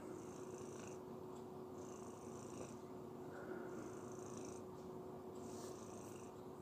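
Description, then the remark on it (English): A cat purrs steadily while being held and pulled in close for warmth, a continuous low rumble with faint rhythmic breathy swells, heard alone without any talking. “giving your cat a warmie. You know, you sort of grab them and pull them in close and, you know, warm each other up.”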